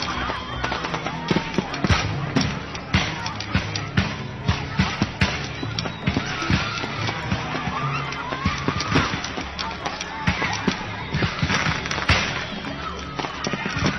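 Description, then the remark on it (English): Popcorn pops rapidly and irregularly, dozens of sharp crackling bursts used as a sound effect standing in for Fourth of July fireworks, with a murmuring crowd in the background throughout. “This crowd is watching fireworks, right? Take away the real effect, and they end up watching popcorn.”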